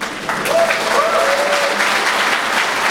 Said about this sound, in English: All right, they deserve that. They deserve two claps.